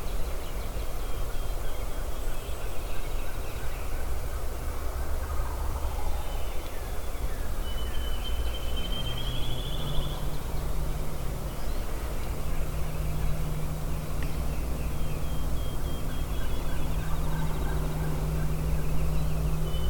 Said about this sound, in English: There's another one that's come active. He may be over on Gobbler's Knob. That would be a turkey